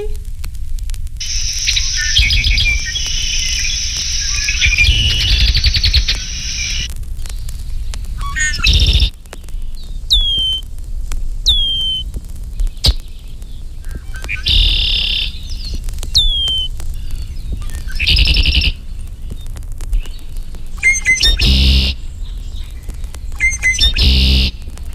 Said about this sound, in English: These red-winged blackbirds give other calls in addition to the familiar conk-a-ree.